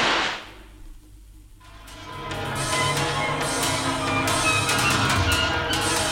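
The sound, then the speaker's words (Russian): A single sharp pistol shot, fired by Peter from an open kitchen window into the darkness, cracks out and fades, followed by a short lull and then a steady, rough, crackling wash of noise that continues to the end. “Петер открыл в кухне окно и, прицелившись в темноту, спустил курок. Раздался жуткий выстрел.”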